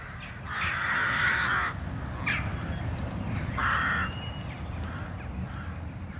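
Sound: crows cawing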